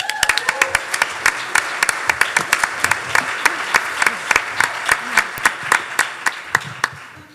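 An audience at an event put on by OMMBC applauds a speaker being introduced, steadily for several seconds, a dense wash of many hands clapping with sharp individual claps popping out, holding at a fairly even loudness before tapering slightly at the end.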